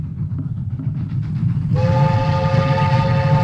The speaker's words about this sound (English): Train number 25, Moscow to Magic Castle, is arriving on platform 3.